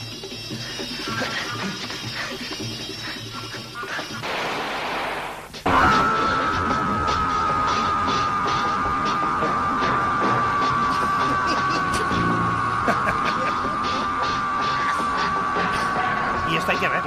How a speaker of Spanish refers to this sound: Tengo la peor muerte del cine turco y del mundo, que es el grito interminable. Es este.